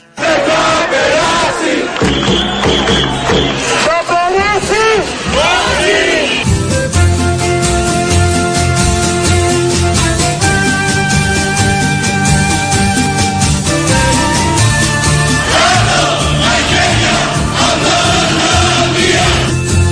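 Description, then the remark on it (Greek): A large protest crowd chants present-day slogans in loud, rhythmic unison, as chanted every year since 1973, voices surging together over steady background music that carries throughout, with the chanting swelling and repeating in waves. “Αυτά φωνάζουν σήμερα και όλα αυτά τα χρόνια που έχουν περάσει από το 73, δεν ξέρω και για πόσα ακόμα χρόνια θα τα φωνάζουν.”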